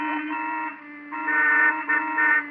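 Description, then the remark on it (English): Several car horns blare together in a sustained, overlapping honk, swelling louder partway through and pulsing unevenly, like impatient drivers leaning on their horns in heavy traffic. “What's everybody honking for?”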